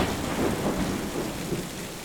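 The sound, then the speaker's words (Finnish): A growing thunderstorm: steady, dense rain noise and howling, rushing wind fill the whole clip, with a low rolling rumble of thunder underneath. No voices. “Myrsky yltyy yltymistä. Tuuli vinkuu ja salamat alkavat leimahtelemaan.”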